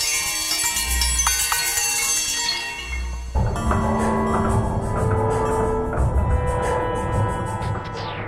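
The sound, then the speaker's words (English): Neighborhood sounds of New York City, such as reggaeton music from West Indies auto body shops, filtered through a device into a dense, shimmering wash of bell-like tones that rings steadily, shifting about a third of the way in to a busier texture with a low rumble beneath. No one speaks. “The sounds of the neighborhood, like the reggaeton music of the West Indies auto body shops, he kind of takes them and then filters it through some device that makes it sound like bells.”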